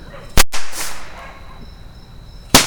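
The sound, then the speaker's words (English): Two sharp, loud firework rocket bursts go off about two seconds apart, each a sudden booming crack, with a faint high whistle lingering in between and no voices. “Fa-thump, fa-thump.”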